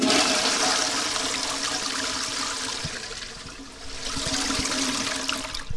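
A school toilet at the Bildungshaus in the Schule Tadenstraße flushes loudly, a steady rushing gush of water that swells again midway before draining off, with no voices present.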